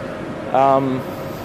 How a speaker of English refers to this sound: So not a lot of ambient noise, I dare say. That, oh, the engine still is running, but, you know, it'd just be idling at this point.